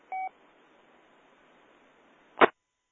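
A single short electronic low-battery warning beep, a steady two-tone chirp, sounds once over faint hiss. After a long quiet stretch comes a sharp, noisy burst, with no one speaking.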